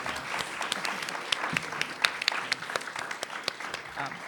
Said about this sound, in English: So if we could do one more round of applause for Criminal Queers.